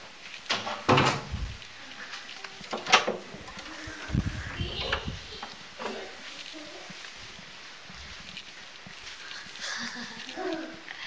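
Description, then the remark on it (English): A door bumps and thuds shut, with a few sharp knocks and a low rumbling impact scattered through, plus faint rustling between them. “Close the door. No, don't close the door.”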